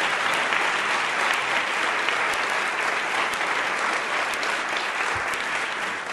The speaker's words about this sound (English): So I just want to invite a round of applause to all of them for the way that they did this.